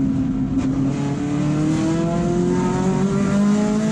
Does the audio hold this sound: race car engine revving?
yes